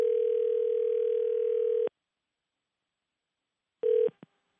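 A telephone ringback tone purrs steadily for about two seconds while a phone call is placed, falls silent, then starts a second ring that is cut off almost immediately. Clear, with no voices.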